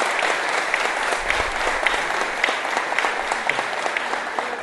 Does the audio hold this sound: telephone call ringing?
no